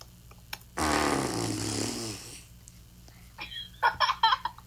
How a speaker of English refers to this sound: Do you want to hear a big fart? Yes. That I did not make? Ready?